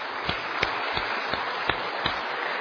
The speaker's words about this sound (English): maybe we'll just put our hands together and give them young ones and those a little bit older than young, maybe should have. Is that the best way of putting it? And, a wee round of applause just to show our appreciation now.